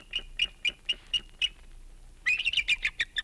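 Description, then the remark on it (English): A wild cry of a bald eagle nesting in Florida: a run of thin, high piping notes at a steady pace, breaking into a quick, excited burst of chattering calls, clear and alone. “That was the wild cry of a bald eagle nesting in Florida.”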